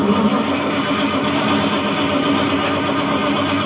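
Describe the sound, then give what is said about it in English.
A car engine starts up in a driveway at night and runs with a loud, steady, rough rumble and grinding clatter for several seconds, with no voices over it. “Yeah, I mean my car started.”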